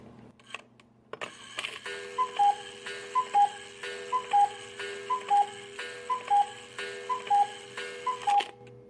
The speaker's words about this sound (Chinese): 早上7点，相信大部分人的一天都是从被闹钟叫醒开始的吧。那我这次选了一个相对温和的闹钟，希望没有引起你的应激反应。